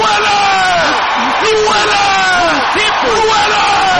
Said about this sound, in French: Crier! Acclamer!